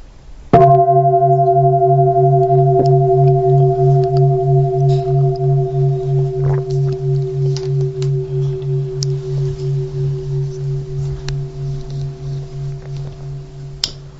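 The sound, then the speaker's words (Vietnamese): A single deep bell is struck once, then rings on in a long, resonant hum that pulses slowly as it gradually fades over about fourteen seconds, with no voices. “Và tôi bỗng nhận ra dường như là mình mới vừa nghe tiếng chuông đó, phải không?”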